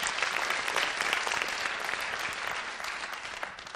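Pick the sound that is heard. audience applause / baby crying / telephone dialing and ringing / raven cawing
audience applause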